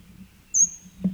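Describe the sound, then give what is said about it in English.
A bird flying overhead, about 20 feet up, gives a single high, thin whistled note that starts sharply and fades while sliding slightly downward, heard over a low, steady rumble with no talking. “38, bird is overhead.”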